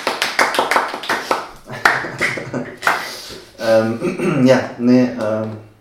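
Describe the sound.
A brief burst of close hand clapping, a quick rapid run of claps from one or a few people, quickly giving way to someone talking.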